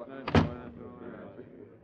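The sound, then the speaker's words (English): A hut door swings shut with one solid thud on an Alaskan winter morning before a mission briefing, followed by a low murmur of voices and room noise in the background. “Oh, we're the last ones in. Close the door, will you?”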